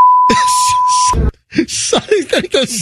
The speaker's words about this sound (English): Did you put the bleep of that? No, that was from the audio.